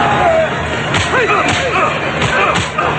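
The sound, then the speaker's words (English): Several sharp punching impacts land in quick, uneven succession as O'Connell is punched over and over in a fistfight, roughly four hard smacks over a busy, noisy background with strained grunts and vocal cries mixed in. “O'Connell is punched over and over.”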